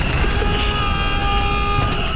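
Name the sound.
buzzer being pressed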